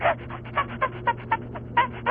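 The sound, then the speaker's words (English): A person imitates a chimpanzee: a quick run of breathy, rhythmic hoots and pants, about eight fairly loud pulses wavering in pitch, with no talking alongside. “You just went into a whole chimpanzee routine.”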